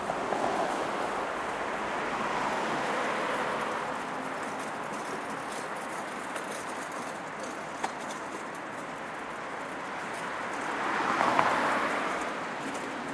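A steady, unbroken roar of cars rushing along several lanes of the Autobahn 2 motorway nearby, a broad hiss that swells briefly louder toward the end as vehicles pass. Nobody speaks.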